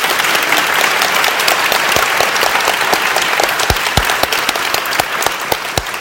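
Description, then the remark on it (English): A sold-out crowd of supporters and donors at Hamilton Commons, during a Radio Times broadcast, claps steadily for several seconds, a dense, sustained wash of applause with sharp individual claps popping out, no one speaking over it. “We are broadcasting from Hamilton Commons with a sold-out crowd of supporters and donors.”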